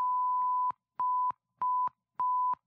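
Morse code beeps for the digit one: a steady, clear electronic tone keyed on and off four times in an even rhythm, the first tone held longest, with no voices.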